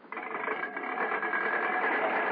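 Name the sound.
car engine idling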